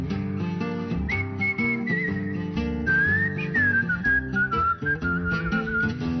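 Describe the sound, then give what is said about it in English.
A group of people whistling a bright, wavering melody over steady band accompaniment with piano and bass, loud, sustained through the whole passage with no talking. “Everybody whistle!”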